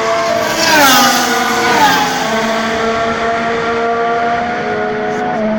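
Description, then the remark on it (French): Racing engines roar loudly and steadily at the start of a race, their whining pitch swooping up and down early on before settling into a sustained high drone for several seconds. “Alors mesdames et messieurs, démarrez vos moteurs et c'est un départ!”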